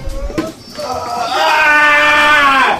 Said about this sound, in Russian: Очень наглядно, знаете ли, от криков раненых по телу мурашки. Вообще все, что здесь сегодня происходит, выглядит очень правдоподобно. Я не смогла вот этих криков выдержать, я вышла.